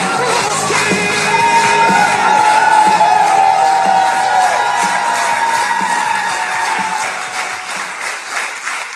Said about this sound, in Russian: И вот вы сейчас услышите, как все время аплодисменты